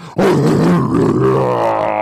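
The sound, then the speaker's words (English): A person lets out a loud, sustained growling roar in imitation of a lion, starting abruptly and holding for about two seconds with a rough, rumbling tone. “Motherfucker sound like the Lion Hood up, the Lion King up under the hood.”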